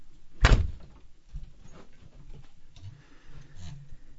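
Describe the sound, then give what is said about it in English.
A door opens with one sharp, loud clunk of the latch near the start, followed by softer shuffling and faint handling noises, with no one talking. “Could you let me open the door?”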